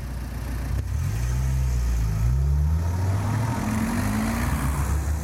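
Cars pass by steadily on a road at a pedestrian crossing, engines humming and rising in pitch as they accelerate through, with continuous traffic noise and no talking.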